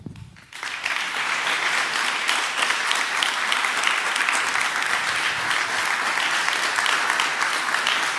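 A crowd at the closing of the Datenspuren event at Zentralwerk bursts into sustained applause, many hands clapping densely and steadily at a loud level for several seconds after a brief quiet start, with no speech over it.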